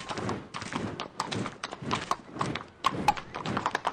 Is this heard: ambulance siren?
no